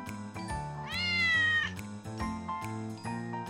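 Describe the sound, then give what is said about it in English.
A single drawn-out meow from Bobby, a black and white cat, rising and bending in pitch, clear, heard over a steady bed of soft background music with no talking. “A cat!”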